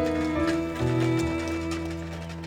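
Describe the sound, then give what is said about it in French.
Horse hooves clip-clop at an unhurried walking pace over a steady sustained tonal drone in the background: a roan Percheron draft horse with a black mane pulling a cart, being whipped and rhythmically breathing out white vapour. “un percheron rouan à la crinière noire, se laissait fouetter et soufflait en rythme une vapeur blanche.”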